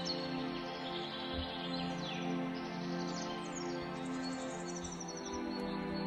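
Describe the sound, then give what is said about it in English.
Birds chirp and trill steadily in a forest over a soft, continuous ambient backdrop, their high calls rising and falling like a dawn chorus. “Hear a stream running gently and the song of the birds.”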